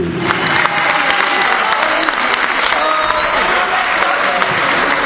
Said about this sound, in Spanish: Venga, ese aplauso también